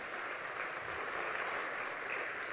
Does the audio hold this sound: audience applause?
yes